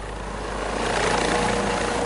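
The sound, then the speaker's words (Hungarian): A helicopter's steady engine and rotor roar, fairly loud, swelling slightly as it continues, with no voices; the helicopter is transporting an arrested man. “A férfit most letartóztatták és helikopterrel szállították át Kárszóéba.”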